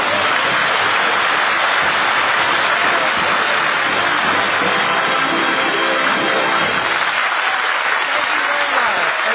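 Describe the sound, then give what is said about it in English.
Loud, continuous applause from the cast of Red Skelton's Raleigh Cigarette Program, a dense wash of clapping that holds steady for about nine seconds without any clear speech over it. “They're all over the cast is applauding.”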